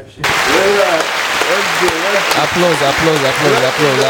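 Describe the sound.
Loud, steady audience applause fills the whole clip after a brief quiet start, a dense wash of clapping with voices cheering and calling out over it.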